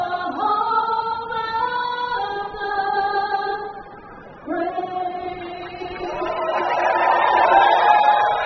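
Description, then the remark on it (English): A big stadium crowd at a night baseball game murmurs beneath long, sustained sung notes of the national anthem, then the noise swells into a broad, rising roar of cheering over the final seconds. “You might be able to tell, big crowd on hand here tonight.”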